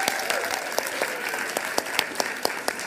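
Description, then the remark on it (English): An audience applauds steadily, a dense wash of many hands clapping, with a few sharper individual claps standing out at irregular moments throughout. “I was worried that the applause wouldn't last as long as the walk either”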